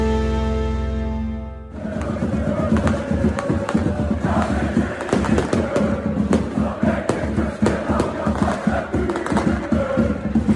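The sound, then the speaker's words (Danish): A big crowd of FC København football fans roars and chants in celebration outdoors on Rådhuspladsen in Copenhagen in the evening, after the club became Danish champions, a dense wash of shouting voices with scattered bangs and thumps, following a brief musical jingle at the start. “Sådan her lød det i aftes på Rådhuspladsen i hovedstaden.”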